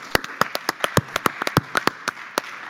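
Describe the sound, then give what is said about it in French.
Scattered applause from a small audience at the Atrium in Dax for the mayor of Dax, Julien Dubois: sharp, uneven hand claps, with no one speaking. “On vous applaudit encore une nouvelle fois.”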